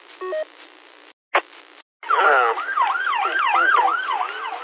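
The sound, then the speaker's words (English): A few short electronic beeps and a click, then an ambulance siren, passing by on Milford Church Road on its way to a drowning at Lake Robinson, wails in loud, rapid rising-and-falling sweeps that continue steadily to the end, sounding thin and tinny as if heard through a radio. “Just up here at Milford Church Road, and ambulance just passed us, and we know where they're going, Steve.”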